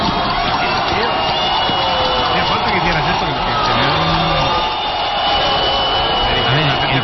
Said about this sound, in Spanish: En la NFL, los aficionados de los Seattle Seahawks han alcanzado el récord Guinness de ruido en un estadio. Han alcanzado los 136,6 decibelios durante el encuentro ante San Francisco. ¿Gritando? Sí, sí. Mira, escúchalo.